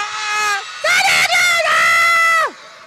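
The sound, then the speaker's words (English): A crowd, with many children's voices, cheers and shouts "Santa!" loudly to make Santa Claus appear: a short burst, a brief pause, then a longer sustained high-pitched cheer that cuts off abruptly. “I think if you cheer loud enough, he might appear.”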